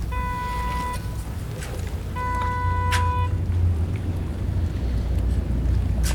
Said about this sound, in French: Allez, il y a un peu de vent. Oui, on aurait dû prendre une parapluie.